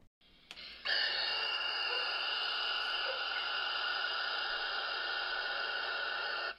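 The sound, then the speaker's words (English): A barn owl hisses in one long, harsh, unbroken rush lasting several seconds, loud, like escaping air or static, with no voices. “The second one is a leak to a barn owl hissing, which is terrifying.”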